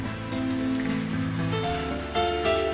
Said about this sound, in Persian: این همون کاریه که گاهی وقتا من وقتی بارون میباره میکنم. دستامو میگیرم زیر بارون، چشامو میبندم، بهت فکر میکنم.